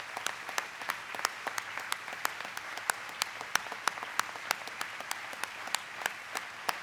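An audience that has risen to its feet applauds steadily, a dense wash of many hands clapping with sharp individual claps popping out at an even, brisk pace. No one speaks over it.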